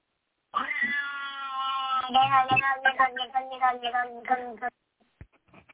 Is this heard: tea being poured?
no